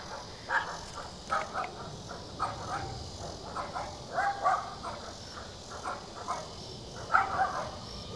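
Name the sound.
dogs barking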